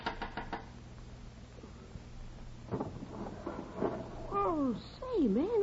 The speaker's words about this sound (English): When I couldn't stand the silence inside my brain any longer, I got out of bed, dressed, and eased outside, and up the fire escape and knocked on Lux's window.